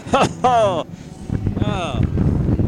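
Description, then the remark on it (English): Blustery wind in windy weather buffets the microphone with a steady low rumble and rough gusts, blowing off hats, while a couple of short voiced exclamations rise over it near the start and middle. “The hats blow off this windy weather.”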